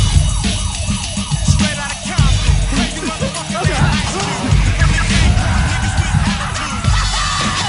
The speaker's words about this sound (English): Shut off the alarm. Fuck! They changed the alarm codes, man.